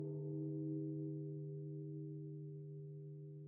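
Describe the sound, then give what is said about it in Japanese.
A deep temple bell rung on New Year's Eve hums on after a strike, its low, steady tone rich with layered overtones, slowly fading over a few seconds with no voices present. “除夜の鐘ももうだいぶ鳴ったよね。”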